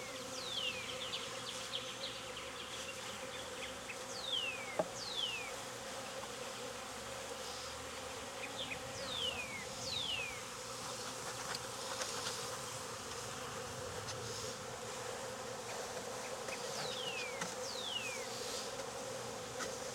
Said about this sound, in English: Well, with this many bees, if this works, I got my population problem fixed.